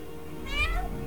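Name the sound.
cat meowing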